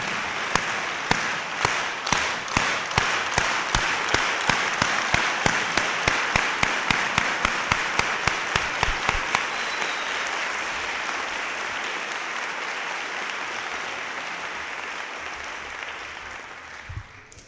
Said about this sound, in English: So at this time, I want to introduce, in my book, one of America's greatest labor leaders that we've had in our history, Dolores Huerta. Let's welcome her with a farm worker clap.